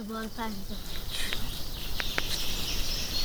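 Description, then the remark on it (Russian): Birds singing outdoors, with a few sharp, high chirps and short whistled notes over a steady high-pitched drone. A brief low, voice-like murmur sounds at the very start. “Когда мы проснулись, то услышали пение птиц.”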